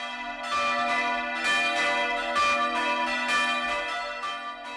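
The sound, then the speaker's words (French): Easter church bells ring in a full, continuous peal, with overlapping strikes sounding every half second or so and rich, lingering tones that fill the air at a steady, fairly loud level. “Cloche de Pâques, Alléluia!”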